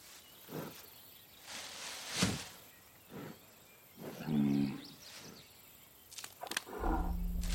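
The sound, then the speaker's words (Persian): A deer calls once in a forest with a drawn-out, tonal bellow, fairly loud, among scattered rustles and brief sharp noises, before a low rumbling swell at the end. No one speaks. “یکم جلوترش یه گوزنه.”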